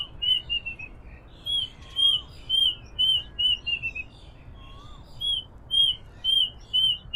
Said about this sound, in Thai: เสียงนกที่หลายคนอาจคุ้นเคยเพราะฟังสะดุดหูแต่ก็ไม่รู้ว่าชื่ออะไรคือนกอีวาบตั๊กแตนตัวนี้ครับ